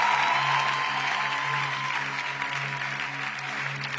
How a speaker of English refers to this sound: If you clap more, there will come out more. Some people don't care, but if you care, clap more. There will come out more.